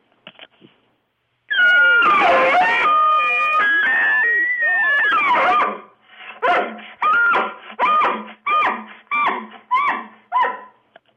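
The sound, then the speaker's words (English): A five-year-old child, a World Elk Calling Championship winner, imitates an elk call: a loud, long, wavering high-pitched wail of about four seconds, followed by a rhythmic string of roughly seven short, grunting yelps. “What's your favorite elk call to do?”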